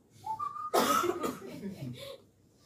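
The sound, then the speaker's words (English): A person gives a brief, steady whistle imitating a store alarm, quickly cut off by a loud, breathy burst like a cough or laugh, followed by murmuring voices. “You just say check, I just start whistling.”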